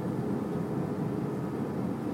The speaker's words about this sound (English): Show you what it sounds like to be on a plane as it lands. Not quite to landing yet. We're still in the, downward. Phase.